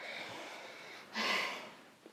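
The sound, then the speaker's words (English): A dog sniffs at a person's dinner, with a soft snuffling breath followed by one louder, drawn-out sniff and a faint puff at the end. No one speaks. “Oh, sniff, sniff, sniff. Oh. Yeah. Oh, you like my dinner then?”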